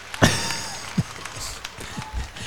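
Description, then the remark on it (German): Thin, scattered audience clapping on a live recording after the announcement of a band: a few sharp, irregular claps and soft thuds over a quiet, hissy recording, with no full burst of applause. “Aber los mal, alle huren lahm, diese Klatschen.”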